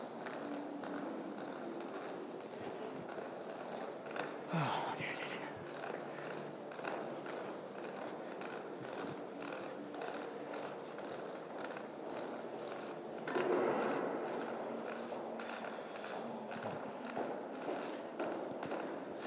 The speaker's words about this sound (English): Sorry for the cane noises over the top of the busker. You couldn't do much about that.